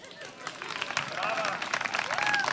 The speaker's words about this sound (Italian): Sta partendo un applauso?